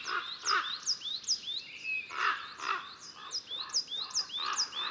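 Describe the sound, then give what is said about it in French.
Two common ravens flying overhead give harsh, croaking calls repeating about every half second, fairly loud, with the sound of their wings and faint high chirps from other birds layered over them throughout. “Ils aiment lancer toutes sortes de cris bizarres et ce sont aussi des as de la voltige.”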